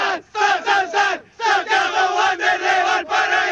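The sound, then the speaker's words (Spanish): A small group of Wanders fans shouts the team's chant, the grito de Wanders, in unison live for radio, loud bursts of voices rising and falling in short repeated phrases with brief pauses between them. “Si ya se conocieron, claro, ¿podemos hacer el grito de Wanders o no? ¿En vivo para la radio?”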